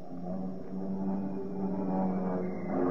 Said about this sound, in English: What's that sound? Bombers. It can't be. Eric, it is. It's a raid. Listen.